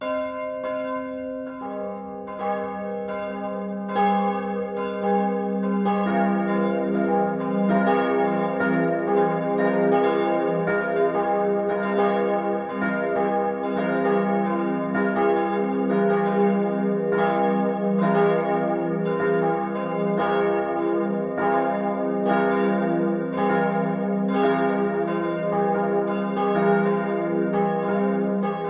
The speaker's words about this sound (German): Es ist 12 Uhr. Das Mittagsläuten kommt heute von der katholischen Kuratiekirche St. Jakobus der Ältere im unterfränkischen Schraudenbach.